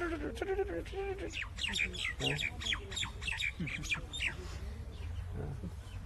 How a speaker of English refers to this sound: And of course now in this winter season, we don't even hear the peacocks even. All the birds except for these parrots, they're always busy twittering away.